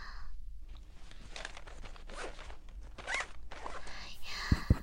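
A trouser zipper is pulled up in several quick, rasping strokes, with a couple of sharp clicks at the end against a low background hum.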